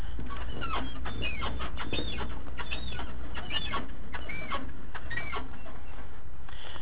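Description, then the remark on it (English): A worn lower control arm suspension bushing on an old Chevrolet pickup truck squeaks over and over in a steady rhythm as someone bounces up and down on the fender: high, creaky chirps mixed with dull knocks and rattling, fairly loud, with no talking. “This is a lower control arm bushing on an old Chevrolet pickup truck, but as I bounce up and down on the fender, you can hear the squeaking noise.”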